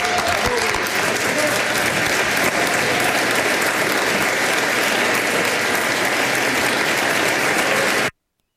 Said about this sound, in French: J'ai laissé les applaudissements à la fin parce que je trouvais les applaudissements malaisants.